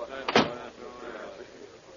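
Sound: door closing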